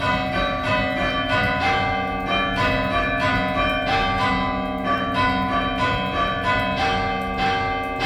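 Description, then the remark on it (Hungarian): A church bell tolls steadily, ringing the shorter Ave Maria at 9:01 in the evening, after the 9 o'clock strike. Each stroke swells into a dense, shimmering hum of overlapping tones that never fully decays before the next strike, with no voices present. “Akkor az este 9 órási óraütés után 9 óra 1 perckor szintén szól a rövidebb Ave Maria.”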